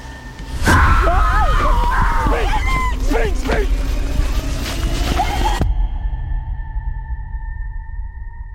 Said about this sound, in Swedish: Att ni hörde en skrikande kvinna? Ja, hörde inte du det? Jag hörde en räv. Ja. Va? Det var en räv. En räv? Ja, de låter så.